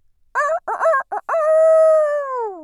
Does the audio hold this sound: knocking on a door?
no